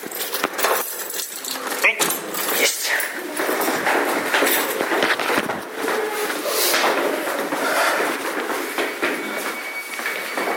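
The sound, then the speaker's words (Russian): A door is pushed shut in a hurry amid rattling and scraping, with a sharp knock near the start. Breathy voices and movement noise carry on around it. “Дверь закрывайся, давай.”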